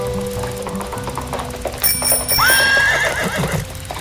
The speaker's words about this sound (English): a horse and buggy carriage came out of nowhere, almost clipping DJ Jeffy Jeff off the road